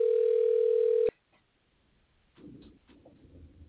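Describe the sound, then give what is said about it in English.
A loud, steady telephone dial tone drones for about a second as a call is placed, then cuts off abruptly, leaving faint line noise and a soft, low rumble afterward. “let's give Mark Common a call”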